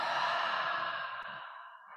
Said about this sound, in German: Wenn wir uns einfach erlauben, tief zu atmen, bewusst zu atmen, ruhig zu werden. Und dann atmet aus durch den Mund.